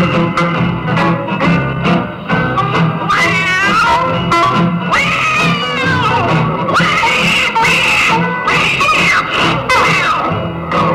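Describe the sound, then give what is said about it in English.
Tomcats fighting and caterwauling: loud, wavering yowls and screeches rise and fall continuously over a steady rhythmic backing, filling the whole stretch without a pause. “Tomcat started a fight, and this is the way it all did sound to me.”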